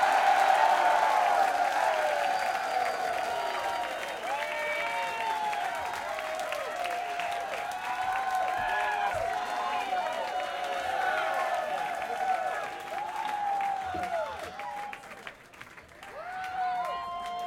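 audience applause and cheering

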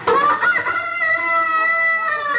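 chickens clucking and crowing

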